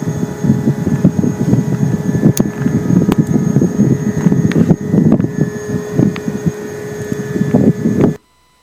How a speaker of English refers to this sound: So you can kind of sense that it's, like I said, I refer to it kind of as a screechy vacuum, or I know a lot of people refer to it as like a grain dryer noise.